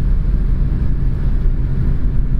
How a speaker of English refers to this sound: I'm next to a bus. Can you hear?